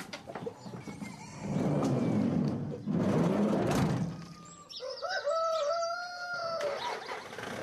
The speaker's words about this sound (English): with the chickens in the back of his van